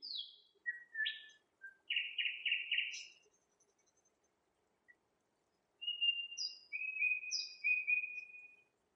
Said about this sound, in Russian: А соловьи были слышны во всем доме.